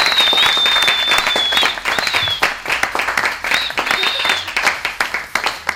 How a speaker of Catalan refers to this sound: I només acabar, que els oients no ho han pogut sentir, hi ha hagut un aplaudiment aquí que jo crec que val la pena repetir i compartir-ho amb tothom, no? Perquè ha estat molt bona feina.